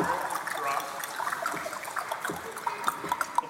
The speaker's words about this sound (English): The rains came down and the floodwaters came up. The water splashed outside of the boat and pushed it up and down for 150 days.